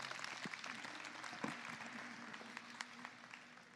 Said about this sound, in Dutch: Mag ik nog één keer een applaus voor onze wethouder, Kirsten de Vrede.